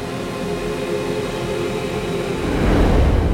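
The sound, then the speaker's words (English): A train at a depot platform rumbles steadily with a droning metallic hum, swelling louder and heavier toward the end, with no voices. “Two days later, Smoke, Sally, Pearly, Cal, and Jules were standing on the platform at the depot, waiting for the train that would take them back home.”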